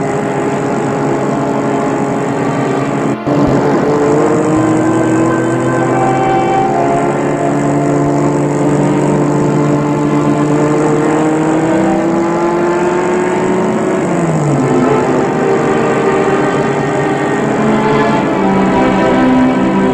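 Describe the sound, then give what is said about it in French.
A car engine hums steadily as the car drives through villages, its pitch rising and falling gently with speed changes, continuous for the whole stretch with no voices. “Il roule, sèche la bouche. Il passe dans des villages qui semblent morts.”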